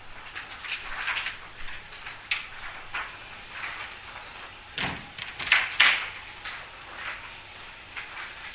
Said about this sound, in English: Well, maybe better close the doors again. Are they going to complain? I think this is the only time, and after this we can open the doors.